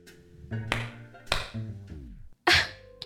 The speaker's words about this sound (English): You just clap your hands and the stereo turns on? Yep, this baby is state of the art. You turn it off the same way. Try.